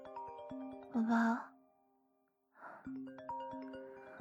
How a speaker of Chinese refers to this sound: 宝宝，你电话响了，不是我的，我的昨天晚上静音了。